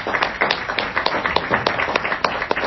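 A crowd applauds a panel after a discussion, many hands clapping in a dense, steady patter of sharp claps at an even loudness, with no voices standing out.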